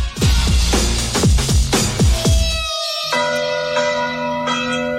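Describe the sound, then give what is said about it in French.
Church bells ring from a village bell tower in the commune of Vindry-sur-Turdine, Rhône, France, about 40 km west of Lyon: loud, quick overlapping strikes, then a single bell's long resonant tone hangs and hums, with a fresh strike ringing out near the end. No voices are heard. “Dans certains villages ça peut être infernal à cause du bruit des cloches.”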